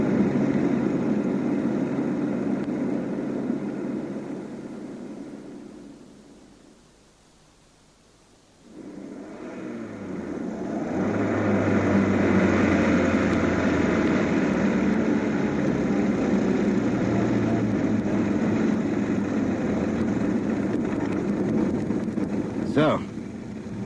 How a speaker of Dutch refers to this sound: Ik zou de motor maar afzetten,